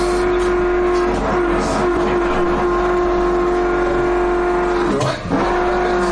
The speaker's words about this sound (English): Sorry, I actually couldn't make any of that out, because there's some sort of massive drilling noise. That happened!